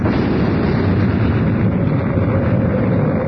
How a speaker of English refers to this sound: An explosion inside the Sphinx. What happened, Reed? Even I can figure that out. It was the Pharaoh's last booby trap. He blew up every trace of his very existence.